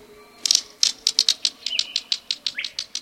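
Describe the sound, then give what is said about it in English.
A green kingfisher gives a rapid series of dry, stony clicks, about a dozen evenly spaced ticks like pebbles knocked together, clear with no voices. “Like two pebbles clicking together, the green kingfisher's quiet call can be heard at wooded streams and ponds.”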